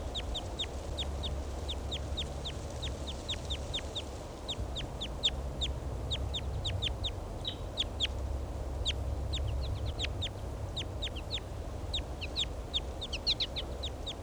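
A wild bird gives flight calls in quick, sharp chirps, repeated in an irregular stream throughout, over a steady low rumble of outdoor background noise.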